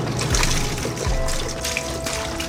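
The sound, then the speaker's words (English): Milk pours steadily down a drain at a grocery store in Montana in a continuous, splashing trickle with a low gurgle underneath. It is moderately loud, with no voices. “When I came here 4 years ago, I had no idea that they were pouring down as much milk down the drain as they have been.”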